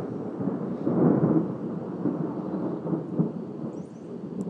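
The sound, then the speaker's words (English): A low, rolling rumble of thunder during a thunderstorm, recorded outdoors, swells early, then grumbles on and fades slowly, with steady rain hissing in the background throughout. “We get lots of crazy thunder out this way, so it's fun times.”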